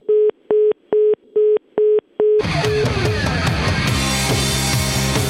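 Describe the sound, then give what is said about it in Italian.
Six evenly spaced telephone busy-tone beeps pulse loudly and steadily for a couple of seconds after a caller hangs up, then a dense burst of loud music abruptly takes over. “Ma perché ci ha sbattuto il telefono giù?”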